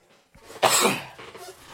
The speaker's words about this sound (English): By the way, I don't know how this episode's going to sound. Because I got a new microphone. And, I'm sorry if you'll hear me cough sporadically throughout the show.